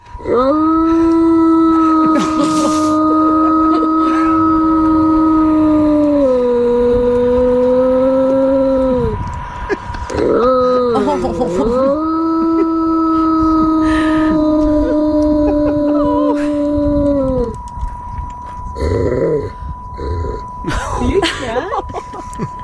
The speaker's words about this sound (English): Not looking so good, honey. It's like a slow motion howl.